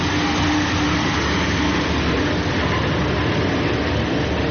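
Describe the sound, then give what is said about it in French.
A truck engine rumbles steadily, a loud continuous low drone with broad mechanical noise and no pauses or speech throughout, as the truck heads back to the Okhla landfill. “Alors avec ce camion, Alexia, là, on revient, retour au départ de l'émission, on retourne à la décharge d'Okhla, où on était donc au début de l'émission.”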